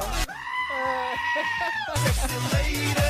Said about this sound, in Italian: Il bello è che sono delle capre vere che cantano.